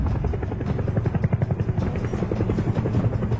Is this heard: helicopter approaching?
yes